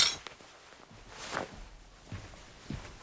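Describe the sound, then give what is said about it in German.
A table gets bumped: a sharp knock with a brief rattle of dishes, followed by a few duller thuds spread over the next couple of seconds, with no talking. “Entschuldigung, ich bin gleich an den Tisch gestoßen.”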